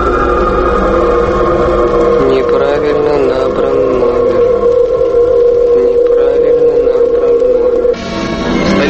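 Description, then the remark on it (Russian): A Soviet tractor engine rumbles loudly and steadily, a dense droning roar with slight shifts in pitch, before it abruptly cuts off near the end. “Урвався гуркіт радянського трактора.”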